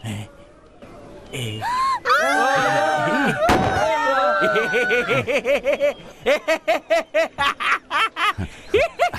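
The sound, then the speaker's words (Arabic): A single sharp rifle gunshot cracks out partway through, surrounded by excited vocal sounds, followed by a run of rapid, rhythmic laughter-like bursts. “حسنا سأطلق النار.”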